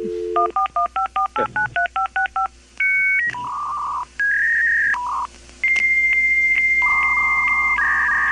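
A dial-up modem connecting: a quick run of touch-tone dialing beeps, then a sequence of steady electronic handshake tones, fairly loud, with no voices.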